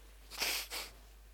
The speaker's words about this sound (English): Excuse me for a moment if I blow my nose.